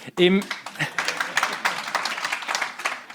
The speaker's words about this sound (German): Im spontanen Applaus schliesse ich, dass das offenbar auf Zustimmung gestoßen.